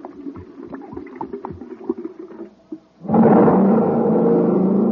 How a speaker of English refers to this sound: Wow, that jet cycle is supercharged now. Yes, sir, gang, when it comes to supercharging, you need super fuel.